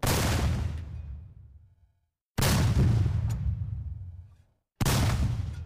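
cannon firing sound effect

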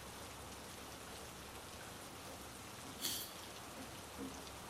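rain falling

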